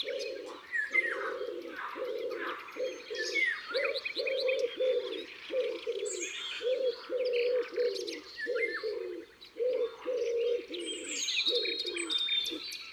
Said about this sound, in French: Là, c'est le pigeon ramier. Ce grand pigeon des bois grille avec des barres blanches sur les ailes. Un oiseau farouche, difficile à approcher.